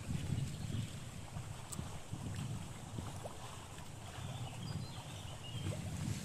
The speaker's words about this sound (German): Boah, ist das windig, ey. Wenn ich längere Haare hätte, würden sie irgendwo da hinten an der Wand hängen.